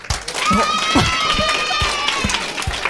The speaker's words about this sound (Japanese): 拍手が起こりました。